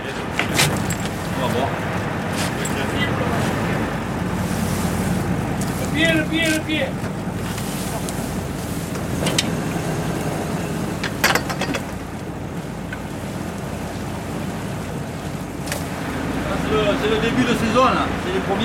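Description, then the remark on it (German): A fishing boat's engine drones steadily over wind buffeting and rushing sea water as it heads off the coast of Marseille to its first net, a net set to catch sea bream, with occasional sharp knocks and clanks and faint voices in the background, continuous throughout. “Jetzt fahren wir zum ersten Netz.”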